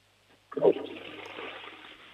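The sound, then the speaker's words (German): A toilet flushes with a sudden loud rush of water that settles into a steady, hissing gurgle as the tank drains. No one speaks. “Das ist ja eine tolle Klospülung, die hat man super gehört.”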